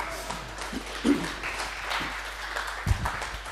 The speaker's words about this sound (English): One of the UK's best safe crackers, by the way. That was a cheap parlor trick. Please don't applaud the monkeys.